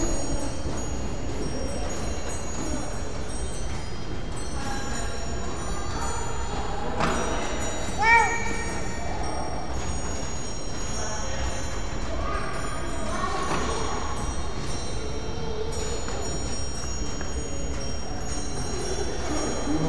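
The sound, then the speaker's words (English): A single short chime from a phone rings out briefly partway through, bright and clear above a steady, dense background rumble with faint tonal hum running throughout. “Oh, it's chiming again.”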